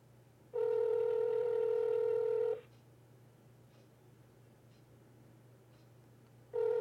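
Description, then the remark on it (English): An outgoing phone call's ringback tone sounds loud: a steady two-second ring, a long silent pause, then the next ring just starting. A low hum runs underneath throughout. “How you gonna text me and then not answer the phone?”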